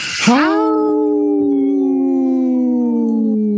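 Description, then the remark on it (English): A single long wolf howl swoops upward from a breathy onset, then holds a steady, clear tone for several seconds. It is loud, with no talking over it. “did you howl with us? No, I got too shy. I know. We'll have to do that next time you come on. Looks like the wolf is stuck there.”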